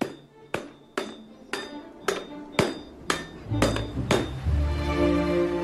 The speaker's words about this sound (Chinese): 就是俺两人必须得配合起来，这个大锤像你看到我点下了，他打锤，一个是得有力气，这个还得有技术。